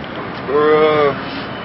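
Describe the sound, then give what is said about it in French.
Steady outdoor ambience from the deck of a barge moored at the Quai Conti in Paris, a soft breezy hiss throughout, briefly interrupted midway by a short voiced sound rising above the background. “Sur une péniche à Paris, Quai Conti.”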